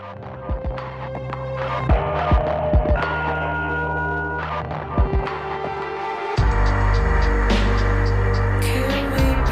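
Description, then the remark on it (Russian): A synth-driven song from a video game soundtrack crackles with deliberately added bursts of static, pauses and glitchy stutters over a low droning hum, then swells into a louder, denser section partway through. “в песню Neighbors добавляются необычные для них помехи и паузы”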